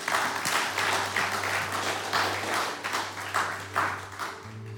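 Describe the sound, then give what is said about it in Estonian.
A crowd at a church service applauds steadily for several seconds, the clapping dense and continuous with rhythmic swells, over a low steady hum. “Teeme me väikse aplausi”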